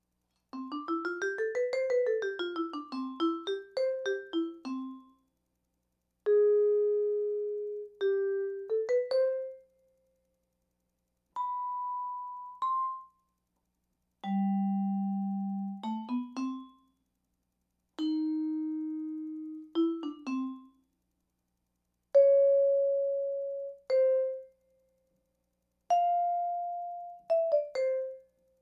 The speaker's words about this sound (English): Okay, I'll do about 5 minutes of random pitches with all 12 tones now. And you should be able to hear them all now.